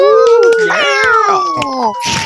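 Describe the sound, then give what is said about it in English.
A person imitates a cat with loud, close, drawn-out wavering meows that slide in pitch, ending in a brief breathy hiss. “I hissed and meowed.”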